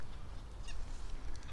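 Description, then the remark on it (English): Small birds call faintly, two or three short chirping bursts rising over a steady low outdoor rumble, with no one talking. “All the little birds are just having a blast today.”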